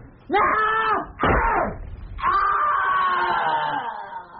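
A man screams in agony as he is stabbed with a knife: two short, strangled cries followed by a long, drawn-out wail that slowly trails off.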